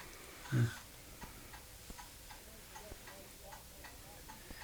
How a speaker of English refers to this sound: I notice you got some old clocks around here. Did you fix clocks? I used to.